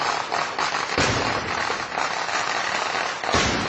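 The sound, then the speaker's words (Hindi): Fireworks during a festival at the Puttingal temple in Kollam district, Kerala, India: a dense, continuous barrage of explosions crackles and pops without pause, with louder booming bursts near the start and end, all loud with no voices. “यह आतिशबाजी का शोर केरल के पुतिंगल मंदिर का है, जिसके चलते हुए हादसे में अब तक 100 लोगों की मौत हो चुकी है।”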